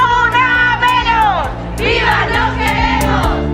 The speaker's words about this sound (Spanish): Son los gritos y los cánticos que se han escuchado por toda Extremadura este 25N, Día Internacional para la Eliminación de la Violencia hacia las Mujeres.